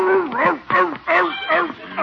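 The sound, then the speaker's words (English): Chickens squawk and cackle in frantic, overlapping bursts as a dog chases them, several loud calls rising and falling in pitch over a couple of seconds, as if the birds are scattering in a panic. “He's chasing the neighbor's chickens.”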